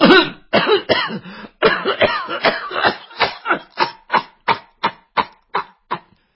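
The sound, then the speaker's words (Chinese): A storyteller telling a Chinese tale imitates an elderly woman's coughing fit: a few long, raspy throat-clearing hacks give way to a rapid series of short, regular coughs that gradually weaken, fairly loud. “老太太说到这里就开始咳嗽。”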